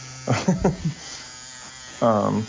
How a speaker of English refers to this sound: I'm actually joining you because I'm here in your shop getting a tattoo. So with the people who are listening, they're hearing the buzz. That's me getting stuck with a million needles.